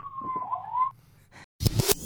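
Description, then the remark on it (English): A police siren wails in the background as police cars go by on a street in New York City, a single rising tone that fades, followed by a burst of loud, harsh street noise like passing traffic. “What I love about that message is it sounds like he said he's in New York City and you hear like police cars going by in the background.”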